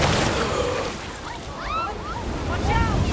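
A heavy ocean wave crashes down on a swimmer struggling to the surface, in a dense, roaring wash of water that stays loud throughout and swells again midway, with faint high whistling tones flickering above the surf.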